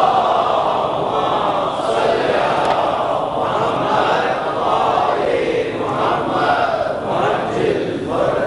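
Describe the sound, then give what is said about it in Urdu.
A large audience chants salawat, a religious salutation, together in unison, a loud, dense wall of many voices rising and falling in rhythmic phrases for several seconds. “ہمارے دیگر نعرے سلامات”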